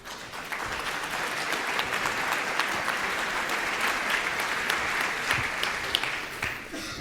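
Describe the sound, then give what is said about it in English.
Steady audience applause welcoming a paleo artist to give a talk, a dense wash of many hands clapping at an even loudness before tapering slightly near the end. No one speaks over it. “I ask you to give a warm welcome”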